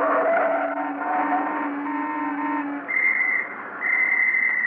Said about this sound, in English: Hey, lady, hold it there. Just a minute there. Were you whistling at me, officer? Well, yes. As a matter of fact, I was.